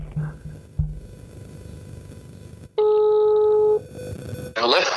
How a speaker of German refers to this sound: Ich rufe ihn jetzt einfach mal an. So, jetzt probieren wir das mal. Das wird doch hundertprozentig wieder funktionieren.